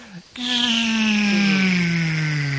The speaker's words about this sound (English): What is that? That Star Wars sound when Obi-Wan shuts down the tractor beam.